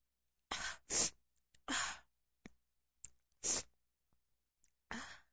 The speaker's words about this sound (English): I let out a sneeze and blush begins to creep to my cheeks. Hey. Sniffle and say, "Excuse me." A couple people say, "Bless you."